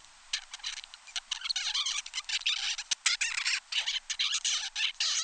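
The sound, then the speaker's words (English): A 35-day-old baby zebra finch babbles in a rapid, continuous stream of high, scratchy chirps and squeaky notes, fairly loud, with no voices present. “This is a 35-day-old baby zebra finch.”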